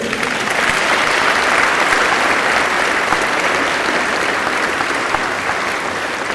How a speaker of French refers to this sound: Jésus, tu es là. Applaudissons-le.